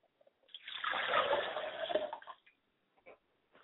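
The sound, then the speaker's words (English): Water is poured steadily into a glass for about two seconds as a libation for a mother's spirit, a splashy pour that then stops, followed by a couple of faint small sounds. “I like to pour a glass of water for my mother's spirit, and I say, Ashe.”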